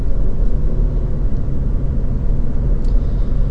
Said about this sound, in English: There's always people walking here on the intersection of this KU Medical Center. So many cars, so many people on the street.